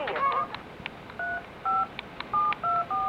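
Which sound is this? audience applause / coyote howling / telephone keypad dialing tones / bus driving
telephone keypad dialing tones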